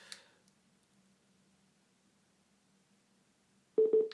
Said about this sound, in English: So that means it's in pairing mode, that double beep. Here it is. JBL Flip comes up in the Bluetooth device list.